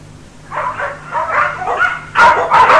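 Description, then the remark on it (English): A dog barks and yips repeatedly in quick bursts in a pet shop, getting louder toward the end, with a low steady hum in the background. “Here's the pet shop. They're buying a dog.”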